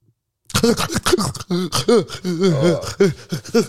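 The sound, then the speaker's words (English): A voice imitates snoring as if in Zulu, producing a quick run of loud, throaty, voiced bursts with gasping, groan-like inflections, almost like garbled syllables, for a few seconds. “Please show me how you snore in a different language. Snore in Zulu.”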